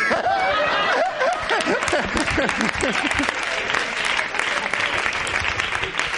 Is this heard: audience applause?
yes